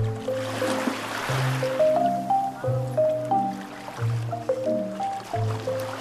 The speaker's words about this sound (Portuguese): Ouvimos a trilha sonora do documentário e o som das ondas da Praia de Lamu.